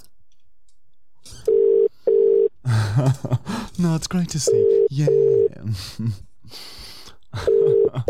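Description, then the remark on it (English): A telephone ringback tone on an outgoing call to a cleaning service sounds in paired bursts, a steady mid-pitched double ring repeating every few seconds, with people talking over and between the rings. “It's ringing. It's ringing. It's ringing.”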